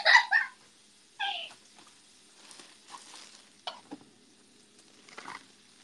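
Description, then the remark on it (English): Soft crackling hiss of oil sizzling in a frying pan, coming in faint uneven patches after a few short, high wavering cries at the start, with no one talking. “Splashing the oil in the pan into its eyes?”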